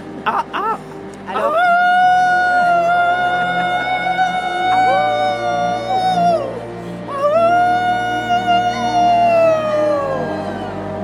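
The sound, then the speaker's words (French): A crowd of people, the audience at a masterclass at the Festival du Livre de Paris, howls like wolves: many voices join in long, rising and falling wails, swelling into one loud sustained howl, then a brief dip and a second long howl. “Oh, where is our howl, right?”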